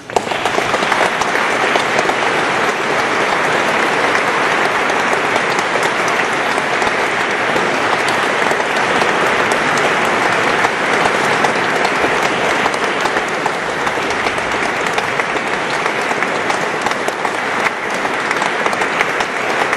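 A large audience gives panpipe player Dana Dragomir a warm welcome before her concert: a dense, steady wash of clapping that holds at an even, loud level for about twenty seconds with no voices standing out.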